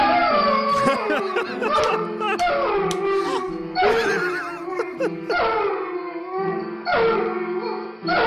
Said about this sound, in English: He plays three different songs. So he's up on his hind legs, beating his paws on the piano and singing. His name is Elmo.